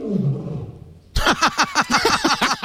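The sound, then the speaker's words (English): A low rumbling growl gives way to a loud, rapid series of about ten throaty grunting pulses in steady rhythm, like a lion's roaring call. “And that's actually how lions sound.”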